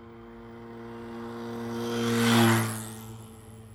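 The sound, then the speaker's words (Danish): A moped engine buzzes steadily, growing louder as it approaches, peaking, then fading away as it passes. No one speaks. “Og det starter med en knallert.”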